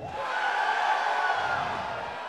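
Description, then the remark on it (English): An audience yells and cheers together, in response to being asked whether they like a singer, in a dense, steady roar that holds at an even, fairly loud level for about two seconds, with no single voice standing out. “I sense some people yelled that weren't sure.”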